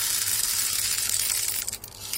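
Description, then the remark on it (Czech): A steady rush of several hundred seeds being poured into an automatic seed dispenser, a research device from Palacký University that looks like a small 3D printer: a dense, hissing patter that runs for about two seconds, briefly thins, then picks up again. No one speaks. “do něj teď sype několik set zrnek”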